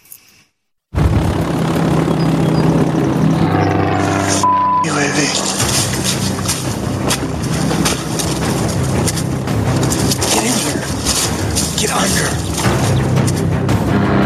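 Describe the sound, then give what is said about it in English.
A Gray Eagle military drone flies overhead with a loud, continuous engine drone and propeller hum that sweeps slightly in pitch, filling the scene after a brief moment of near silence. “there's a $20 million drone that came after you on your program”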